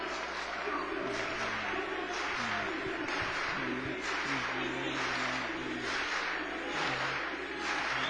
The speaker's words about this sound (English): How much fun it is right now to just take in the sounds of this crowd.